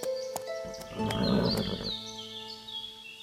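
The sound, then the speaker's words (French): A horse snorts with a breathy, rumbling burst and lets out a high, wavering whinny, fairly loud, lasting a few seconds with no voices present; its nostrils quiver as it senses water from a spring at a bend in a path. “En voyant frémir les naseaux de son cheval, il dit « Tu as senti l'eau ?”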